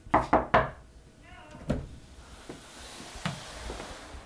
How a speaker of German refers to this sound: Und die gehört den Müttern. Ich klopfe mal eben.